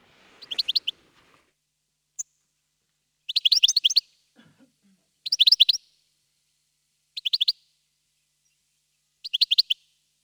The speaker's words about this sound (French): Ensuite, c'est un oiseau que peut-être dont vous ne connaissez pas forcément le nom, mais que vous reconnaissez vraiment par rapport à son allure. C'est le chardonneret élégant.